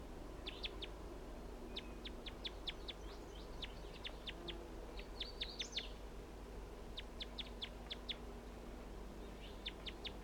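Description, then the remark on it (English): A male wild bird, near a net with its mate close by, calls in repeated bursts of quick, high-pitched chirps, several short series separated by brief pauses, over a steady low rumble of background noise. “And that's him calling right there.”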